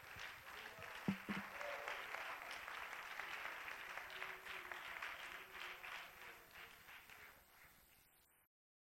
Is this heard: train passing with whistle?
no